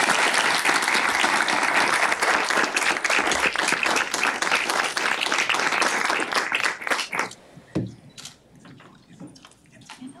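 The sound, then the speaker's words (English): A crowd at the inaugural Inclusive Excellence Summit applauds as the Associate Vice President for Inclusion and Workforce Diversity is introduced to speak: loud, dense, steady wash of many hands clapping for about seven seconds, then it thins out to a few scattered claps and fades. “Give her a round of applause, everybody.”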